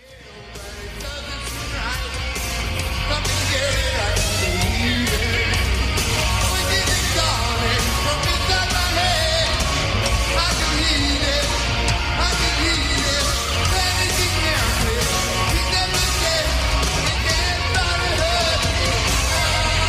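A live heavy metal concert recording: dense, loud wall of distorted guitar, pounding drums and shouted vocals with crowd noise, swelling in over the first seconds and then staying steadily loud.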